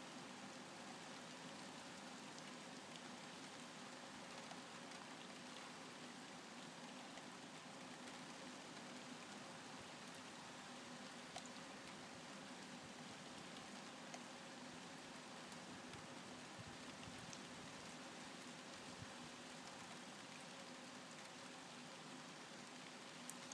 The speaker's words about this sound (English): And it's been at it for days. So we had a similar thing last night till this morning. And this set of rain started this evening, and it's set to carry on until at least tomorrow afternoon. And yeah, we've had several inches of rain in the last week,